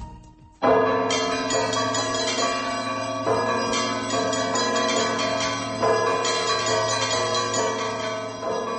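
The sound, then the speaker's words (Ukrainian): Church bells ring out together in a loud, full Easter peal announcing Christ's Resurrection, overlapping strikes repeating in a steady festive rhythm with a rich, sustained resonance and no voices. “У Великодні свята у дзвони б'ють довго, часом до 3 годин.”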